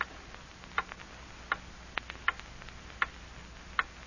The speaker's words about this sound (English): Hear that clock? Morning, noon, and night.